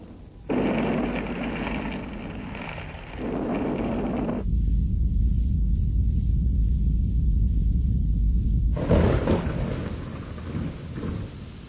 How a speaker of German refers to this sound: Vulkane, Erdbeben und Donner.